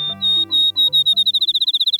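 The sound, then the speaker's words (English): A field sparrow sings clear, sweet whistled notes that start slow and speed up into a rapid, even trill, fairly loud over a faint low steady hum, in the Wisconsin countryside an hour before dawn on a July morning. “A field sparrow announces the new day.”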